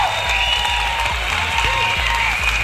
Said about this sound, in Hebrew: תעשה לי כפיים, מגיע לנו אחרי תוכנית כזאת, מגיע לנו כפיים.